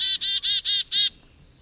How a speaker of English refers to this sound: Let me play sound of one. You write about the chickadee, that chickadees have a complex language for communicating, not only to each other, but to every bird in the neighborhood about how safe or unsafe they feel from predators.